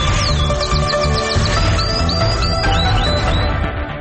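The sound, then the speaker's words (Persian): A canary chirps in quick bursts of short, high, downward-sweeping notes, loud, over a steady tonal musical background that continues throughout. “اینک مشروح خبرها با همکارم قناری.”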